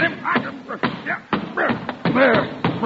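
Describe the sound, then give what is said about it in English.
An umbrella, mistaken for a snake under a chair, is beaten against the floor in a rapid series of six or so loud, irregular thuds, while excited voices shout over the pounding. “You have just killed Mr. Chalmers' umbrella.”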